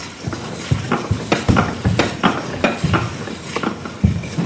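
Repeated scraping, knocking strokes of a utensil stirring groats (kasza) with warm water poured over to cover them in a bowl, a steady uneven rhythm of about a dozen clattering pulses with soft sloshing between, no voices.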